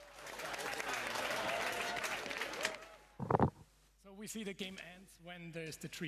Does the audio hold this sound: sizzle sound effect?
no